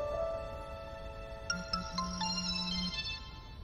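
A mobile phone ringtone chimes with a quick electronic melody, a few short bright beeps followed by a longer sustained tone, clear over a faint background hum.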